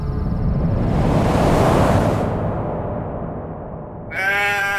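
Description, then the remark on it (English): A steady rush of wind-like noise fills the first few seconds, then a single sheep named Wooly, being sheared, bleats loudly near the end, a wavering nasal cry. “Rena spoke to the sheep as she sheared.”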